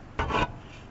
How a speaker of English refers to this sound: Let me put down this mic and change to the other mic.